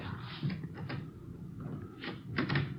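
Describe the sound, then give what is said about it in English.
A back door at the rear of a hotel is tried and pushed open, with several short rattling, scraping bursts of handle and latch noise over a low background rumble, no talking. “Well, look, the stains lead over this way to the back door here. Let me try.”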